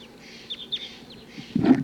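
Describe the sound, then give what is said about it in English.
A few short, sharp red crossbill calls chip out at a moderate distance in quick succession, followed by a louder, closer burst of calling or rustling at the very end. “So recording, the rest of the flock is still here. I think it may be a Sitkensis type that has been captured.”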